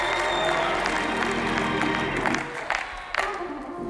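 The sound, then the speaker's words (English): An audience claps in a dense, steady wash of applause that thins out toward the end, leaving a few scattered claps, with faint crowd voices mixed in. “Now you clapping.”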